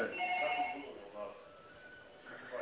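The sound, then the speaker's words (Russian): A telephone rings with a thin, tinny warble, strongest at the start before fading, then briefly swelling again near the end, with muffled, indistinct voices underneath; a young woman is calling to offer help with arranging a bank guarantee. “Ага, тут девушка звонит, хочет предложить свои услуги по...”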